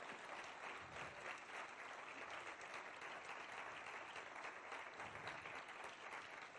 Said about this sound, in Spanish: Un aplauso a los ujieres. Démosle un aplauso a los ujieres y a todos los que sirven.